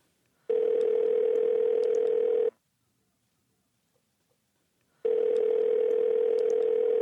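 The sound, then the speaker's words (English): A phone call to the speaker's wife rings out twice with a steady, droning ringback tone, each burst lasting about two seconds and separated by a quiet pause. No one speaks. “I think it's worth talking to my wife about this. So I think we should call her up.”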